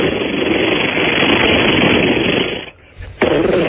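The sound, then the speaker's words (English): A voice imitates rapid AK-47 automatic rifle fire with the mouth, a loud, harsh, continuous rattling hiss that cuts out briefly near the end, then resumes for a moment. No words are spoken. “That was my AK-47, man. That was your mouth.”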